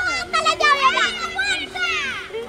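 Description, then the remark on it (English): Children's voices chatter and call out together in lively, overlapping bursts, with high-pitched shouts rising and falling over a steady low hum, as neighborhood kids play outdoors in the open space where Osama bin Laden's compound once stood. “The compound where bin Laden hid is now open space, where neighborhood kids play.”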